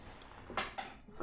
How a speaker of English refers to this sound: Anyway, I got to sneeze.